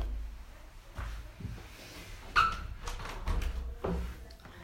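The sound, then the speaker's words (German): Windows being shut to keep out the noise of a construction site outside: several dull thuds and clunks spread over a few seconds, one sharper latching clack in the middle, over a low steady rumble with no talking. “Warte mal, ich mach mal ganz kurz die Fenster zu, weil hier ist draußen eine Baustelle und es ist so laut.”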